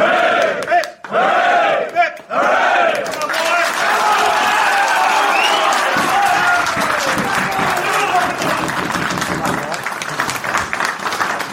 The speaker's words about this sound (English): Play for the club. Can we give three cheers to the club? Hip it!